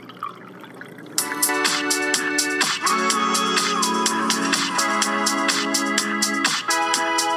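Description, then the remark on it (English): After a second of near silence, a drink pours steadily into a glass, a continuous splashing, gurgling stream that runs for several seconds without a break. Nobody speaks. “Keep pouring? Keep pouring, my friend.”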